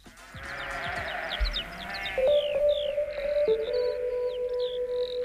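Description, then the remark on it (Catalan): A sheep in the United Kingdom bleats in long, drawn-out, wavering cries, loud, while birds chirp high in the background over a noisy outdoor ambience. “Ara me diràs que ses ovelles també tenen mal pel cap,”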